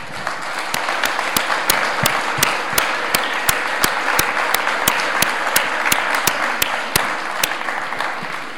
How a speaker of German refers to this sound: Machen wir mal den Start mit dem Team der gotischen Systemquäler. Bitte schön auf die Bühne und einen großen Applaus.